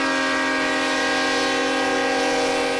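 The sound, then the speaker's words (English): A train carrying a former U.S. president's flag-draped coffin through the town of Navasota in wet, soggy weather sounds its horn in one long, loud, unbroken blast that holds steady, dominant, with a low rumble underneath and no voices. “The journey of Bush's flag-draped coffin through Navasota by train is a rare event”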